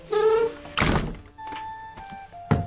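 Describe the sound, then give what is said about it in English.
The old, squeaky wooden door of the John Howland House in Plymouth, home of Mayflower pilgrim John Howland, creaks on its hinges, then shuts with a heavy, solid thunk; a faint ringing hangs on before a second short knock at the end. No one speaks. “welcomes our crew and bids us close the door”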